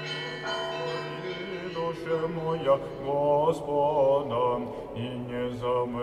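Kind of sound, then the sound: signal or alarm, russian church bells ringing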